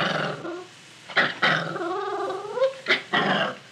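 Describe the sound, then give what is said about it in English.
A puppy growls in a long, rumbling snarl, broken by several sharper, louder bursts of growling and yapping, as a new collar and leash are put on her. No one speaks. “But when he tried to put the new collar and leash on her...”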